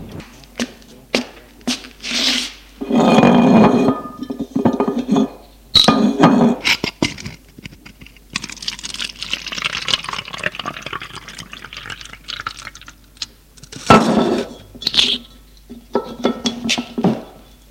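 Bourbon is poured into a glass in several gurgling bursts, with a longer steady pour midway, broken by sharp glassy clinks and small knocks. No one speaks. A man pours himself the glass in the salon of a large 18th-century town house.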